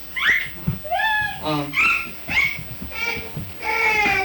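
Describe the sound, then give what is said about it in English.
A person whistles to call a horse: a quick run of short, swooping calls, about half a dozen chirpy notes sliding up and down in a lively, uneven rhythm. “Let's see, how would you whistle for a horse, maybe like that?”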